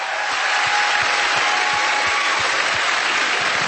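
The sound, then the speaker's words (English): A crowd in Seattle applauds steadily, a dense wash of many hands clapping at an even, fairly loud level throughout, with no voices standing out. “And he's applauding.”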